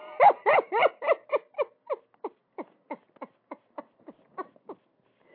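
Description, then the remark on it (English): A dog named Robert Kelly barks in a rapid run of about fifteen yips, loud and full at first, then thinning into quieter, sharper yelps at a steady pace, with no talking. “I told the lady right there I got an old new cow called Bessie Lou and a dog named Robert Kelly.”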